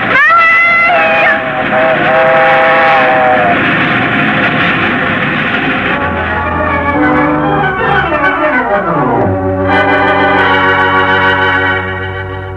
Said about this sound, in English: Fast train is coming.